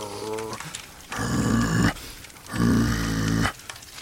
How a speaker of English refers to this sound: See him? He's getting a little deeper. You know what I mean? Mm-hmm. Dogs go from that bark to that growl, that